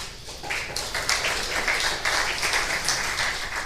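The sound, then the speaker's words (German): An audience at a talk applauds a speaker being introduced, a steady, dense wash of many hands clapping at a fairly even loudness for several seconds, with no voices over it. “Ich bitte um einen Applaus für Andreas Krumtring.”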